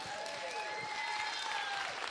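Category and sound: crowd, round of applause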